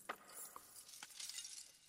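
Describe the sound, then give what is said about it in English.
Light glass objects clink together several times in quick, irregular taps, bright, with a faint rattling shimmer between the hits and no voices. “A kind in glass.”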